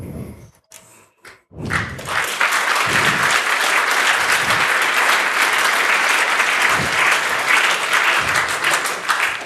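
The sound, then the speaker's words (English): A few soft thuds, then a burst of audience applause that swells quickly and holds steady as dense, sustained clapping for several seconds, loud and even throughout. “I actually expected laughter rather than applause there because...”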